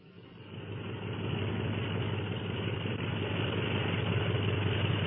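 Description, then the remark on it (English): Airplane engines drone steadily as planes taxi out of a secret hangar for takeoff, led by a black and silver plane: a low, rumbling roar that swells over the first second and then holds at a constant loud level with no talking. “Those planes will be taxiing out for a takeoff at any minute.”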